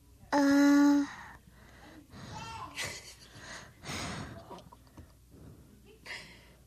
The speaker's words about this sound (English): That breathing's very... maybe you want to hear yourself?